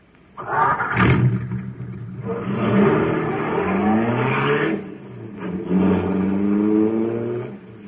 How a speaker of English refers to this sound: Boy, that cosmic surface car is really roaring. That's because it's supercharged with super fuel.